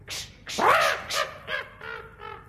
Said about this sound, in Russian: Ты не можешь согнать с моей шляпы вот эту нахалку ворону? Пожалуйста.